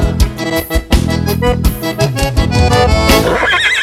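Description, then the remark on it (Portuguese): A horse lets out a loud, quavering whinny near the end, rising over a busy backdrop of rhythmic music with percussive hits. “Relincho, mas que baita fusarqueira.”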